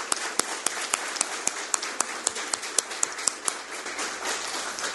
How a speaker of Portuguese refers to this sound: Então eu peço, humildemente, a todos vocês aqui presentes, que dê uma salva de palmas para esses homenageados, porque eles que merecem as palmas.